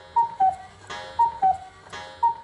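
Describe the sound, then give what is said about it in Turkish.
A cuckoo clock calls three times, each a clear two-note falling "cuck-oo" about a second apart, with a soft mechanical whir between calls and no voices. “Ve birden guguklu saat ötmeye başladı.”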